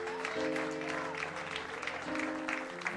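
An audience applauds with dense, steady clapping that fills all three seconds, while sustained low musical tones hum beneath the applause.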